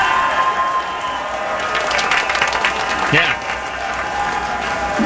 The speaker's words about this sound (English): I'll add in my own clapping with that.